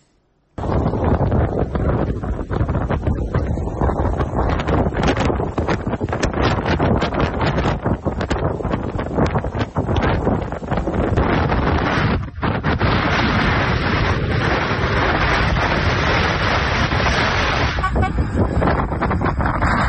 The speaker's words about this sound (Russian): В Украине сегодня бушует метель, она началась с юга и больше всего задела Одесский регион.